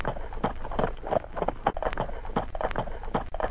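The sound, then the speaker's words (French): The hooves of several horses, carrying a troop of 70 men sent to arrest Muslim, pound in a quick, uneven clatter, the beats overlapping as the animals come on at a run. The hoofbeats stay steady, with no voices. “Lorsqu'il entendit le bruit des chevaux qui s'approchaient, Muslim comprit ce qui se passait.”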